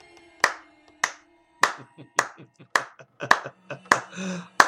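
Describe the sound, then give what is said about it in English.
Slow, deliberate hand clapping, about nine sharp claps spaced roughly half a second apart, crisp, with faint background noise between them. “Applause preceded the grimacing Murdoch as he confidently strolled into the room.”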